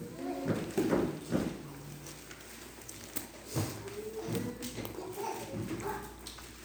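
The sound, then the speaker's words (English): A child stomps her feet in a series of irregular, hollow thumps on a hard floor, with faint background murmuring in the room. “It's my granddaughter, so she wants to stomp her feet.”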